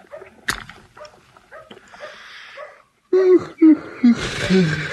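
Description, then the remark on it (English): A dog whimpers and wheezes, with breathy, raspy breaths followed by several short, strained whines in quick succession. “Your dog sure ain't very lively today, is it?”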